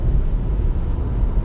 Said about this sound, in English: There's a car tailgating me on the highway right now.